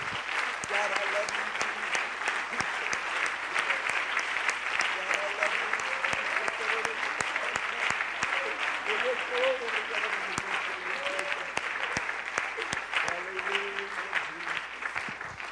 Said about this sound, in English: Let's clap our hands to the Lord today.